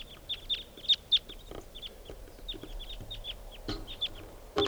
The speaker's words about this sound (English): flock of about 10 birds here, and they're all type 2s. Maybe 8 or 9 birds.